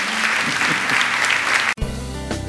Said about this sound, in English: Now give the Lord a hand clap this morning.